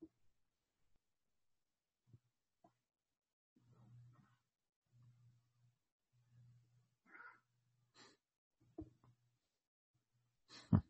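A cat meows a few times in short, quiet bursts, with soft low rumbling sounds in between, fairly faint, and no one talking.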